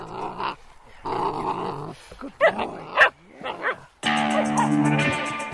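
A Karelian bear dog puppy, a National Park Service dog to be stationed in Denali National Park, growls and lets out sharp, yappy barks in quick bursts, loud, ending in a sustained, rumbling growl mixed with whiny yelps.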